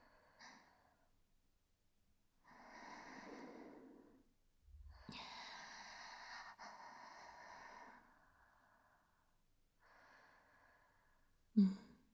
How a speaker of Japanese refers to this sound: そう、気持ち悪い息遣いして。